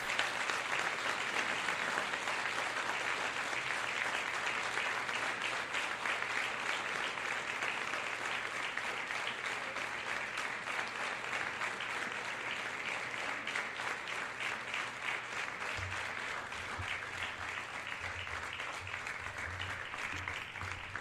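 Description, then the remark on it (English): A crowd claps in a steady, dense wash of applause for the Christmas Gala team receiving their award on stage, holding at an even loudness for about twenty seconds, with no voices standing out. “And please join me, folks, in a much appreciated round of applause.”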